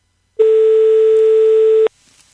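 A single steady telephone ringing tone sounds on the line, a loud, unbroken electronic hum lasting about a second and a half, then cuts off into near silence.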